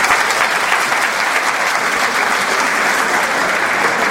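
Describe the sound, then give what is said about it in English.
Sustained audience applause in Brooklyn, a dense, steady wash of many hands clapping at an even loudness throughout, with no voices standing out. “He deserves a great round of applause.”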